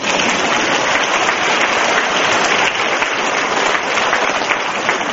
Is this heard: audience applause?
yes